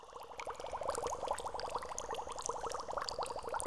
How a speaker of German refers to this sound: Manchmal findet Grundwasser seinen Weg durch einen Berg und wird zur Quelle. Aus der Ferne hört sich die kleine flinke Quelle wie das Klingeln eines Glöckchens an.